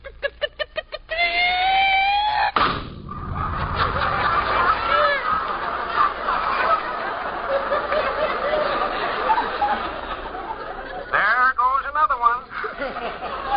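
A flock of farm chickens fed Lay or Bust feed clucks and squawks excitedly, with rapid cackling bursts and a sharp flutter near the start, the busy noise continuing steadily throughout.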